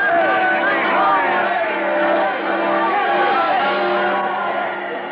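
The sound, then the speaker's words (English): A large crowd cheers and shouts continuously at a train station, greeting Nellie Bly on her train journey across the country from San Francisco, many voices overlapping in a loud, dense roar, with a steady low mechanical hum running underneath throughout. “Cheering crowds gather at every station.”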